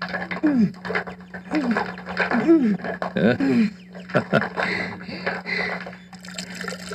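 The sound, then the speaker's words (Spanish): A mechanism for drawing water up from a well creaks and squeaks in a steady rhythm of repeated pulls while water sloshes and trickles, over a low constant hum. “Con menos esfuerzo sacamos el agua del pozo.”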